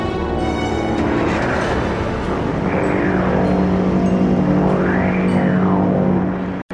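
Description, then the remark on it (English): A loud, steady engine-like roar with swooping tones that rise and fall twice as a craft that had been hovering overhead flies off through the clouds, before the sound cuts off abruptly. “The craft that had so alarmed her, if that is what it was, vanished as swiftly as Iris and Panda, punching its way through the clouds”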